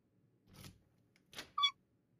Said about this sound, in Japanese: この音、鍵が落ちる音